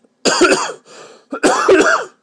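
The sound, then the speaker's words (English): A loud cough in two harsh bursts with a rougher, quieter rasp between them, like a throaty cough being cleared out, from a person with bronchitis, heard alone with no talking. “Yes, and of course, it would not be an audio boo by me if I didn't cough through it.”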